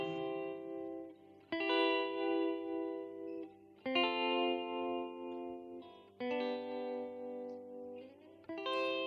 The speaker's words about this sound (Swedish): Jag vet inte vad vi ska kalla den här låten.